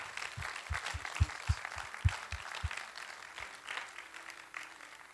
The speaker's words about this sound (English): Can we clap our hands for those that just gave their life to the Lord?